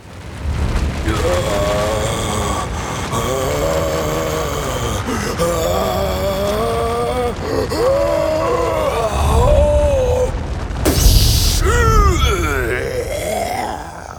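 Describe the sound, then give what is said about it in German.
A deep, strained groaning rumble swells for several seconds like a dull tremor from deep below the ground, then erupts into a loud, explosive burst like a giant sneeze, followed by wavering vocal wheezes. The sounds seem voiced by a person. “Kurz darauf dringt aus der Tiefe ein dumpfes Beben.”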